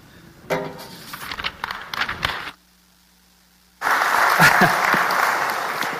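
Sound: applause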